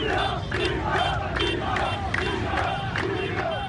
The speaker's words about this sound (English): In Tripoli on Sunday, people shouted chants, echoing the protests that led to the rebellion back then.